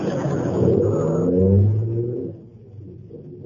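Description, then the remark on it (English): A car engine rumbles and revs up as the driver puts a foot on the accelerator, its pitch climbing to a loud roar before easing off and settling into a lower idle. “Well, then move over so I can get my foot on the accelerator.”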